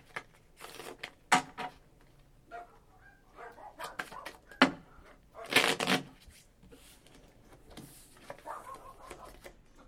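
A deck of playing cards being shuffled for a round of a card game: a series of crisp, papery riffles and flicks in uneven bursts, with a longer, louder riffle near the middle and quieter card clicks between.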